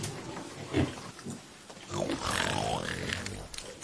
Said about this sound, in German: Hierher, kommt hierher. Wollt ihr wohl herkommen, ihr kleinen Grunzer? Ja, so ist es gut. Kommt her.